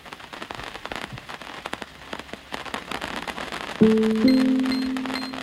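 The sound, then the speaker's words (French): A sudden Breton rain shower patters and crackles steadily on a hard surface at a small farm north of Rennes, France. Partway through, a sustained droning tone starts and continues under the downpour until the end. “On va juste s'abriter parce qu'il y a une pluie soudaine.”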